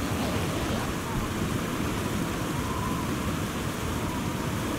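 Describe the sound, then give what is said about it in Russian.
A steady, roaring blizzard wind blows without pause, a dense wash of noise filling the whole stretch at a constant, fairly loud level, with no voices over it. “Почему кругом метель? Почему она не прекращается, мне интересно?”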